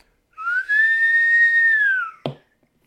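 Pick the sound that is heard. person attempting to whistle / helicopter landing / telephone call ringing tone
person attempting to whistle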